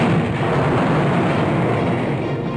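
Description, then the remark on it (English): A huge explosion sound effect for the planet Krypton exploding: a dense, roaring rumble heavy in the low end that holds steady and loud for a few seconds without fading, with no voices. “One of the planet's leading scientists, sensing the approach of doom, placed his infant son in a small rocket ship and sent it hurtling in the direction of the Earth, just as Krypton exploded.”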